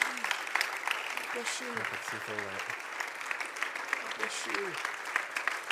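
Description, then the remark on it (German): An audience claps steadily throughout for people coming up to the front, a dense, even patter of many hands at moderate volume, while a few voices speak briefly over the applause. “And can we clap for them while they come?”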